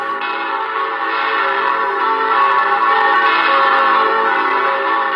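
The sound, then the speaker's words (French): Church bells hanging in their belfry peal continuously, a dense wash of overlapping metallic tones ringing out at full volume without pause, with no voices. “Les cloches nous semblent bien solidement accrochées dans leur clocher, et pourtant, on dit que chaque année, elles partent en voyage.”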